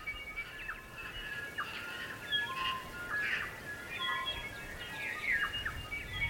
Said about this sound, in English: The kokako, huia, tui, and the bellbird all came together for a resounding dawn chorus. And this was the song of the land, since time immemorial.